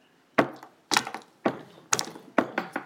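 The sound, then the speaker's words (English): Five heavy footsteps thud across a wooden floor at a slow, steady pace, each step a sharp knock with a slight creaking tail. No one speaks. “And she gets about that far when the footsteps start.”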